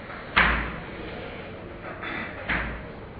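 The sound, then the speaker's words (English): A door bangs shut twice, two fairly loud thuds about two seconds apart, each with a short fading rumble, over a faint background hiss with no talking. “When he leaves, can you lock the door? Close the door.”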